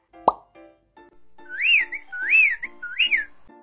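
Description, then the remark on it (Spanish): Birds singing: three repeated high, clear whistled phrases, each sliding up and back down, follow a single sharp plop at the start. No one speaks. “El sonido puede tener un volumen suave, como el canto de los pájaros.”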